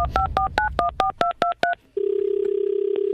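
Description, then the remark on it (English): A rapid sequence of about nine touch-tone beeps as a phone number is dialed for a prank call on the radio show East Coast Drive, followed by a steady ringback tone on the line; the call is to the Dira veterinary clinic. Clear and loud, with no talking. “Who is Rory phone tapping today?”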